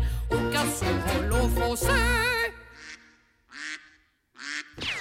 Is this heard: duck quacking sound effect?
yes